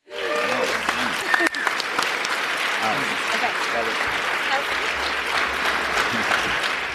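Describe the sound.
A large crowd applauds steadily for several seconds, a dense, sustained wash of clapping with scattered voices and cheers mixed in, staying loud throughout.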